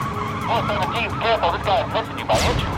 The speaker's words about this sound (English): Now he's running at 90 miles an hour in a car with a shattered windshield. The man swerves wildly, nearly losing control.